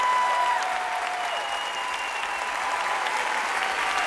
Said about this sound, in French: Standing ovation. Le public de l'auditorium de Radio France est debout.